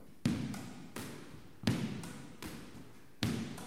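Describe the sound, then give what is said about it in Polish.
Sharp, echoing thwacks of a squash ball repeatedly struck on the forehand side against the front wall by a player standing a little back from it, about five hits in a steady rhythm, alternating louder and softer impacts, reverberant, with no talking. “Stanę sobie teraz troszeczkę dalej od ściany frontowej i będę odbijał piłkę po stronie forehandowej.”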